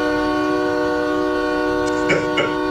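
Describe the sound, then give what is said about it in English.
A truck's air horn blares without letting up as the trucker beeps at a car that squeezed in late at a freeway on-ramp, a loud, steady, multi-toned blast that holds for the whole stretch, with a couple of brief rising chirps near the end. “They're going onto the on-ramp to get to the other side of this freeway, and the trucker is not having it, right? He's just beeping, and he will not relent.”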